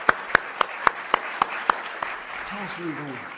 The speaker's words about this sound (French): Et donc on a amené 16 personnes de notre église qui s'appelle Mission Road Bible Church. Just stand up if you would. Et vous se levez. Ah, on les applaudit très fort. Ok, super.